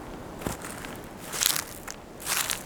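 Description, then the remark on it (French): A few slow, crunching footsteps along a quiet roadside on the way to the port de Lers, each a short gritty scrape with a hissy top end, spaced unevenly over a faint steady light south wind. No one speaks. “Nous sommes en route pour le port de Lers et nous allons cheminer ensemble pour cette carte postale sonore qui va nous mener au port de Salex.”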